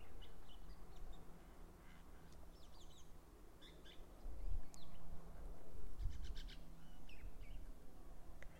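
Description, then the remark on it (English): Small birds chirp and tweet in the distance, scattered short calls coming and going over a steady low rumble of outdoor ambience, with no one speaking. “I'm hoping you can hear these little birds in the distance.”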